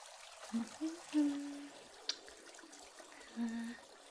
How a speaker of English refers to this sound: A basin. Add some lukewarm water.